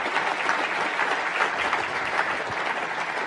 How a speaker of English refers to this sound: Governor Lowe, thank you so much. That was very meaty. I think we could do with another round of applause for the Governor, please.